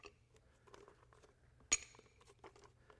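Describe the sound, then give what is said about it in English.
Extra rocks are added to fill up a glass container. One sharp, ringing clink stands out amid a scattering of softer clicks and rattles, with a low steady hum underneath and no talking. “I brought some extra rocks. Let's fill this up.”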